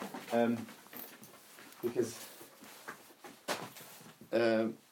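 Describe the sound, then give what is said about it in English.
Dougie, a male guide dog, whimpers in short, high, tonal whines, two clear bursts at the start and end with a fainter one in between, over quiet rustling background. “You want a little cuddle before we go? Hello. You're a good boy.”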